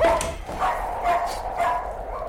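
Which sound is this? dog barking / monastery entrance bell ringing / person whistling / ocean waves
dog barking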